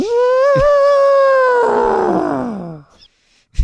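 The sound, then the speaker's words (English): A human voice imitates an elephant with one loud, drawn-out trumpeting call that holds a high pitch, then slides downward into a rough, rasping finish before falling silent. “Okay, so listen to this and tell me if this sounds like an elephant.”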